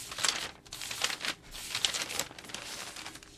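Newspaper pages being leafed through, a quick series of crisp papery rustles and crinkles, each turn a short swishing burst, with no voices.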